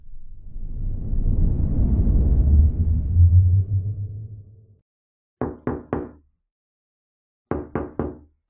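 A deep rumbling whoosh swells and fades, then a woman raps two sets of three sharp knocks on a window, separated by a short pause. No one speaks.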